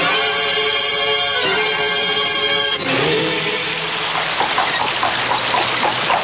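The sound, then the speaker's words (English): A steady hum gives way after a few seconds to a loud, continuous roar of rushing water and heavy spring rain, filling the scene with dense, hissing noise and no voices. “The bridge is down. Those damn spring rains.”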